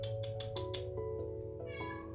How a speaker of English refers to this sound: Can you stop meowing, please? Please? Please? Stop meowing.